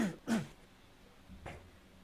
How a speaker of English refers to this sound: Just started coughing.